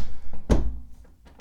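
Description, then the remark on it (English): A door opens with a single heavy thunk and a short low rumble that fades quickly as someone sneaks into a room through another door, followed by a couple of faint soft knocks; no one speaks. “Wait, I'm going to take this opportunity to sneak into the room through the other door.”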